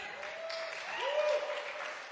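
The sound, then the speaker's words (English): A church audience claps as a "clap offering" honoring their pastor, in a steady, dense wash of applause with no speech, while faint sustained tones, like an organ or keyboard, hum softly underneath. “I know he doesn't like honor and everything, but give him more clap offering.”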